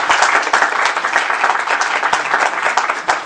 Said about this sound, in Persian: اول به هر شکلی که خودتون میدونید ایشون تشویق کنید یا کف بزنید.